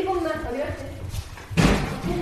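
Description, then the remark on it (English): A single loud thump, a visitor knocking at a door, cuts in suddenly after a stretch of someone speaking, with quieter background noise trailing afterward. “We're interrupted by a very shy visitor at the door.”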